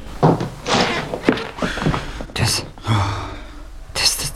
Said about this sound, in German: unten klopft der Entführer an die Tür